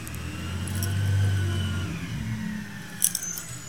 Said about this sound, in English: Emptying the trash. See? Remember what I said? Now, if we didn't have law and order, you wouldn't hear this trash truck emptying these cans like that. No, you wouldn't.